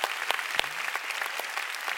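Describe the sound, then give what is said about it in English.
A church audience applauds steadily, giving the Lord a big hand, many overlapping hand claps forming a dense, bright patter with a few sharper individual claps standing out, sustained at moderate loudness with no talking. “Oh, come on, you want to clap? Let's give the Lord a big hand.”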